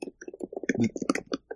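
Rapid, uneven clacking of computer keys, a quick flurry of presses in close succession, at moderate volume with no voices.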